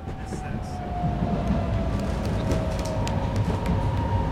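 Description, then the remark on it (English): Steady rumble of a commuter train approaching Marietta station, its last stop in this direction, with a faintly falling whine as it slows and scattered light clicks and rattles over the continuous rail noise. No one speaks. “We are now approaching Marietta. This is the last stop in this direction for this train.”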